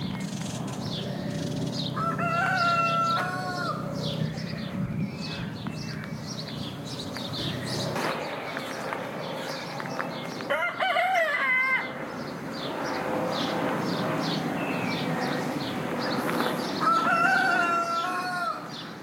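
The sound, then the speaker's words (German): A rooster crows several times on a neighbourhood farm in the middle of Zürich, its harmonic calls rising and falling, while small birds chirp and the low rumble of a plane far away in the sky hums underneath. “Vögel, die zwitschern, irgendwo weit weg ein Flug am Himmel und dann der Gückel.”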